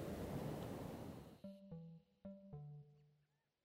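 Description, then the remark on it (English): A steady, loud rush of Pacific Ocean surf at Tofino, British Columbia, fills the first second and a half, then cuts off abruptly and gives way to four short, clear musical tones in a quick uneven rhythm. “And may your joy be as deep as the Pacific Ocean and the background behind me.”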